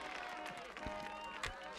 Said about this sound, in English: As a thick fog starts rising from the fountain, Jack appears from within the coffin on his sleigh. Everyone applauds him.